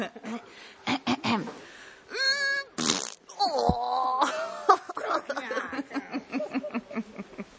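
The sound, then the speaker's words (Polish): Someone imitates farting with their mouth, producing a string of buzzy, sputtering raspberries that rise and fall in pitch, with a few short breaks between bursts. “jej Próchniak najbardziej lubi puszczać bąka. Pokaż, jak on to robi.”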